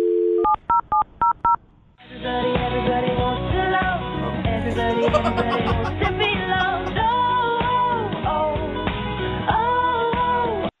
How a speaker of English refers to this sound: I'm going to dial her phone number right now and let you make your Awkward Tuesday phone call.